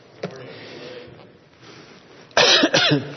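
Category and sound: human body sound, coughing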